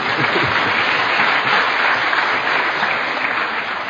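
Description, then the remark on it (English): A church audience claps together for God in praise, a steady, dense wash of applause that holds at a fairly even loudness for the whole stretch, with no voices standing out above it. “Well, yeah, you can clap for Him too.”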